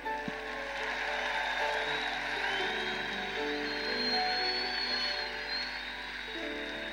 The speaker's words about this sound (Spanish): Vamos, renovamos ese aplauso bien fuerte al Señor.